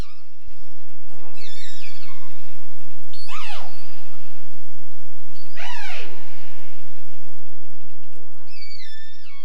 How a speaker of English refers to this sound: What we're hearing there is the AD16 pod, and that group is a group of 13 whales, resident fish-eating whales.